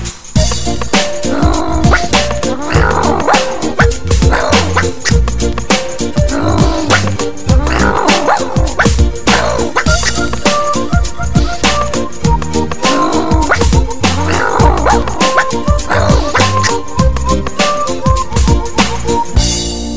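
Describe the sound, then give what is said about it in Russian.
Voices mimic a dog's barking in repeated bursts over loud, steady backing music, the imitated barks gruff and rhythmic throughout. “Собаку изображаем и весело с вами лаем.”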